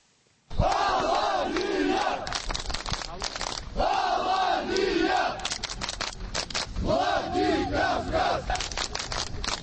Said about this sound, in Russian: Скандировали участники акции.